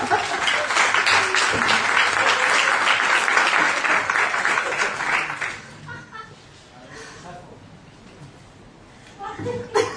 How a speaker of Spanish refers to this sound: Te meto un aplauso, ¿no?